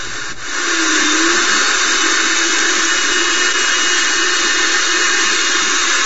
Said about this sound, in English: Alright, so let's look at some power tools. A miter saw. Two drills at the same time.